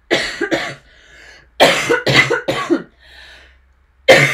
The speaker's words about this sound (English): Sorry, I should have done a cough warning.